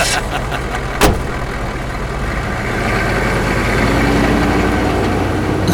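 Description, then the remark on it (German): A car engine rumbles steadily, with a sharp click near the start, then the engine note rises slightly as the vehicle pulls away. “Sonst fahre ich sie euch mit dem Wagen platt.”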